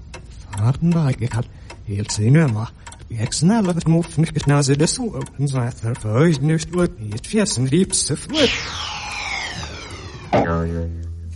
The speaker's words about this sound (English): Well, because the bloke was talking backwards and there's a clock. And an arrow.